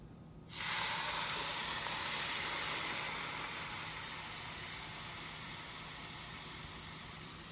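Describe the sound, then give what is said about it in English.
Hot oil at about 340 degrees is poured over aromatics and a spice mix in a bowl, hitting them with a sudden loud burst of sizzling that crackles and hisses steadily, easing slightly as it continues, with no one talking. “This will steam up a lot, so make sure you're using a bowl that's big enough for all your aromatics.”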